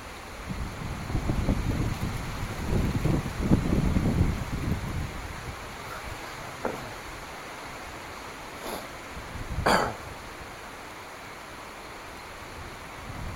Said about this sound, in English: I wish this wind would go away though.